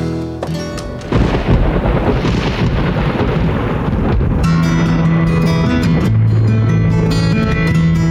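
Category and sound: nature, thunderstorm with rolling thunder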